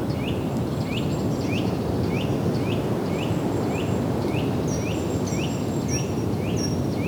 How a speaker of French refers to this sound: Du vent, des oiseaux. Reflet du ciel grisonnant sur le vaste marécage.